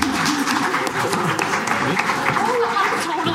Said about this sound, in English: Thank you. Okay, another round of applause, guys.